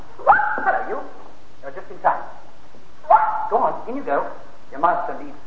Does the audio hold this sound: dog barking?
yes